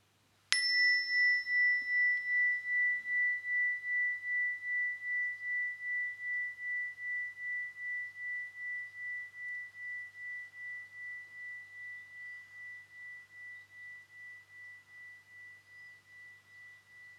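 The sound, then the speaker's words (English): A single meditation chime is struck once at the start of a Calm Me Time relaxation session and rings clearly, its pure tone pulsing gently as it slowly fades over many seconds in otherwise quiet surroundings. “So chime, breathing, good people, chime.”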